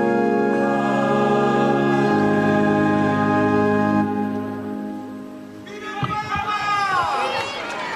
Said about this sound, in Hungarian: Kedves Mária Rádió hallgatók, ahogy halljuk a háttérben, egy taps viharral köszönik meg a Szent Atya mai tanítását, katekézisét.